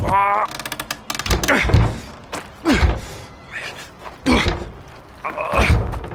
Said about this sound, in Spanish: Venga, vamos a intentar abrir la puerta. ¡Imposible! Está cerrada por dentro. Vamos a forzar la puerta. ¡Aparte, aparte de en medio!